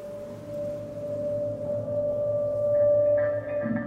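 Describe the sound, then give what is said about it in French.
A honeybee colony clustered for winter inside its hive around wax combs holding honey, the queen at the centre, while it freezes outside, gives off a steady, dense droning hum with a strong sustained tone, without pause. Some higher buzzing swells in toward the end. “Les abeilles se tiennent les unes aux autres. La colonie forme une grappe.”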